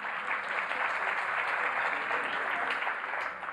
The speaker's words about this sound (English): Yeah, give yourself a hand clap.